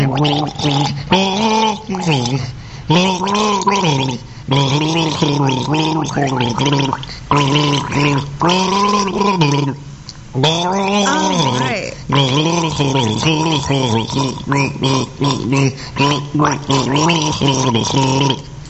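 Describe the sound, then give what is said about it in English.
A person gargles water while voicing a tune, the bubbling throat sound rising and falling in pitch through a series of sustained, melodic phrases with short breaks between them. “Here's Gargle number 6.”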